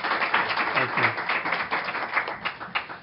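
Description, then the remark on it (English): Audience applause for the panelists at a member meeting: many hands clapping together in a dense, steady patter that stays fairly loud and even throughout, with a few sharper claps standing out near the end. “let's give the panelists a round of applause.”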